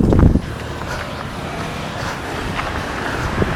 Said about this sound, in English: Yep, there's your traffic.